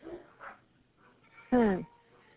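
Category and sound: animal, dogs barking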